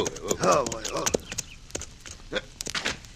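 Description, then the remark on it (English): Horses' hooves clip-clop in scattered, uneven beats at moderate loudness, following a short tonal vocal sound at the start, as riders leave their horses in the shade at the side of a store building. “Leave our horses here in the shade at the side of the building.”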